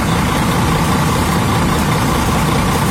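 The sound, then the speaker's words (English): The diesel engine of a singer's double-decker bus, driven around London, idles steadily and loudly, a continuous low rumble with a dense mechanical clatter and no voices over it. “Still driving his double-decker bus around London, promoting his new single,”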